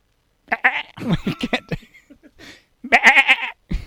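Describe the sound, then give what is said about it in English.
A person imitates a pygmy goat with a series of wavering, nasal bleats, a cluster at the start and another loud burst near the end, fairly loud with no other talking. “Wait, let me see if I can do a goat.”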